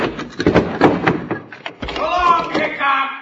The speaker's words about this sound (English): somebody's closed the door.